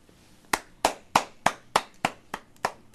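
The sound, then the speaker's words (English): A single person claps hands for the show in a steady, even rhythm, about nine sharp, crisp claps spaced evenly apart, with no voices. “Yeah, I was clapping for the show.”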